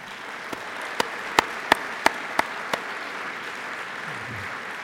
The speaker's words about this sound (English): And now I'm going to mention different groups, and I would like them to stand and hold your applause till they're all standing.